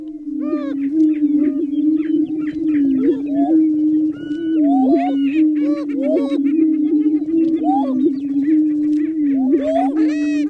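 Prairie chickens, an endangered species, booming in their mating ritual, played from Maya Lin's What is Missing? Listening Cone in San Francisco: a steady, low, hollow moaning drone runs throughout, overlaid with a loud chorus of rising whoops, cackles and chattering calls from many birds at once.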